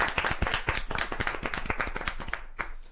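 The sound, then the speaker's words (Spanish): A small crowd claps hands in a steady burst of applause lasting a few seconds, dense overlapping claps that stay fairly loud before thinning slightly toward the end. “Eso merece un fuerte aplauso, claro.”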